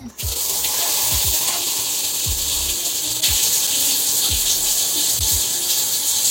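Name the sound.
shower running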